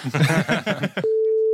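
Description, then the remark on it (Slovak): A voice speaks briefly, then a steady, single-pitched telephone ringback tone starts as a call is placed to a sleeping friend at a late hour, holding clearly and continuously until the end, with no talk over it. “Ona vie, že telefóna do tomto čase nemôže znamenať nič dobré.”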